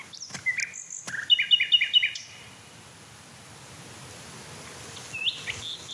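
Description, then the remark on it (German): A male songbird sings a short, bright phrase of quick repeated chirping notes, then falls quiet, with one faint call later over soft outdoor background noise. “Mich würde echt interessieren, ob er andere Männchen noch singen hört, die ich gerade nicht höre.”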